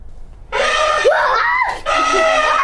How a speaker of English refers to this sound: The kids shriek in response.